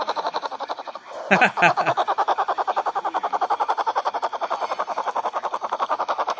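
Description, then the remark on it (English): A baby black bear snores while asleep, a steady, rapid, buzzing pulse that runs throughout, briefly broken early on by a louder, higher-pitched whiny grunt before the rhythmic snoring resumes. “All right, so guys, this is actually a baby bear. A baby black bear. Sleeping.”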